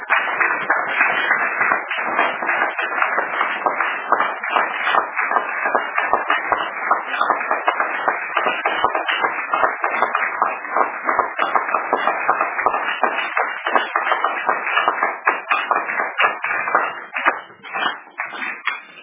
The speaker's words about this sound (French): Applaudissons d'abord pour le Seigneur.